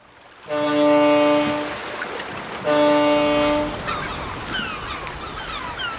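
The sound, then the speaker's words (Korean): Two long, loud blasts of a boat horn sound over the noise of Guryongpo harbor in South Korea in winter, where fishing boats come and go, followed by fainter cries of seagulls circling the masts, scattered in the background as the blaring fades. “항구에는 고기잡이 배들이 쉴 새 없이 드나들고 갈매기들은 마스트 주위를 빙빙 맴돈다.”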